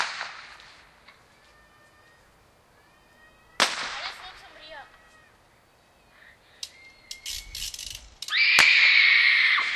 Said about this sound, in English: Where are those bottle rockets coming from? People behind there. Behind where? Huh? There? Oh, behind there. Behind that building. The little ones that keep popping over here, I mean?